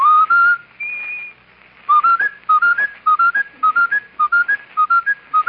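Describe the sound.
A clear whistled tune starts, then snags on a short rising phrase, repeating it over and over in quick, even bursts, imitating a skipping broken record.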